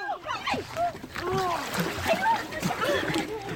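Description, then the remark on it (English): A sudden splash and churning of water as a sea lion grabs a six-year-old girl by the dress and pulls her into the water near Vancouver, British Columbia, mixed with several voices crying out and shouting in alarm over continuous, busy background noise. “Near Vancouver, British Columbia this week, a sea lion grabbed a six-year-old Canadian girl by the dress and pulled her into the water.”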